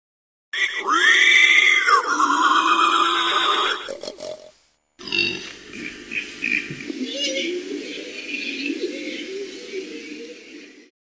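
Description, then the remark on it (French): Wild boars grunt and squeal loudly in two rough bursts separated by a brief pause: first a high, whining squeal, then a stretch of harsh, snorting grunts. “I can hear wild boars.”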